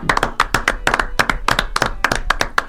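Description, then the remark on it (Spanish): An audience applauds with dense, steady clapping, many sharp hand claps blending into a continuous bright rattle at fairly strong volume, with no voices standing out, applauding a list of people just named and congratulated. “Los felicitamos a todos ellos, los aplaudimos a todos ellos.”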